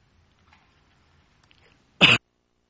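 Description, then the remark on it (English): A single short, forceful throat-clearing cough bursts out after a couple of seconds of near silence with faint low murmuring. “At my coughing, it's okay because I laugh at myself.”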